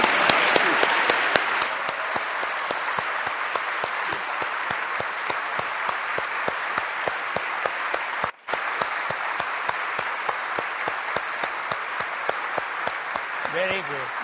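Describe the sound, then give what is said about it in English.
Sustained applause from a large audience for a group of Americans, dense clapping holding steady for about fourteen seconds with a brief break near the end, faint cheers mixed in. “So I wave my wand and I say, "Fellow South Africans, let us give these Americans a real humdinger of an applause.”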